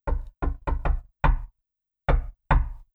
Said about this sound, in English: As soon as they cover themselves with a blanket, they hear another knock.